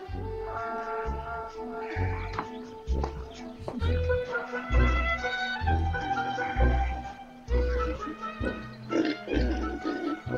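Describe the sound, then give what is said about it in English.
Pigs oink and grunt in a steady run of low, rhythmic snorts, with higher squealing tones mixed in and no talking over them. “Which pig weighs more?”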